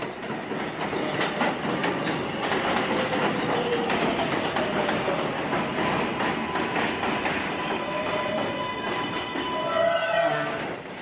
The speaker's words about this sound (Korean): 많은 사람이 타고 내리는 뉴욕 지하철역.